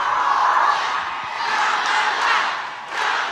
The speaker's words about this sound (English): The event felt like a campaign rally, with the audience echoing her name as Harris walked on stage.